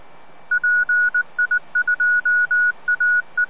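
A quick run of electronic telephone dialing tones, a dozen or so short beeps of uneven length in rapid succession, clear and fairly loud against a faint background hiss, with no voices.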